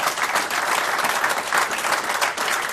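An audience in a hall applauds a guest who has become champion, a dense wash of many hands clapping at a fairly loud, even level with no talking over it.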